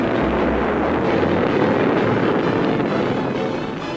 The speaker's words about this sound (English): Meanwhile, at a small spaceport near London, England's most famous consulting detective, Sonar T. Foom, and his associate, Dr. MacGuffin Drone, board Foom's multi-atmosphere cruiser, the Bellerophon, and blast off for Starlab.